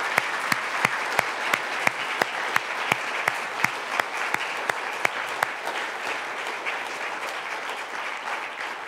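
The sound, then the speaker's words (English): An audience applauds steadily for several seconds for standing military veterans, a dense wash of clapping with a few sharp individual claps standing out early on, then it thins slightly toward the end. No one speaks. “So if that's you, if you would just stand for just a moment, I just want to take a moment and pray a prayer of thanksgiving for you all, and yeah, you're welcome to clap.”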